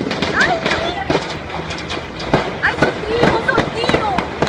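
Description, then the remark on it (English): Irregular gunshots crack out again and again, sharp pops in uneven bursts against a noisy outdoor background, with faint, indistinct voices mixed in; gunfire in Venezuela as a police helicopter hovers over the Supreme Court and Interior Ministry. “You can see and video the chopper and hear the gunfire.”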